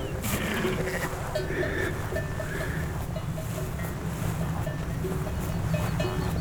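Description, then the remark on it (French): Several ewes bleat in overlapping calls in a mountain pasture with rhododendron bushes and small rocks, over a steady low rumble of wind in an open outdoor setting. “Flanqué au milieu d'un pâturage assez mixte, puisqu'il y a beaucoup de massifs de rhododendrons, d'un rose fluchia, du rose du vert, des petits rochers où les brebis s'abritent.”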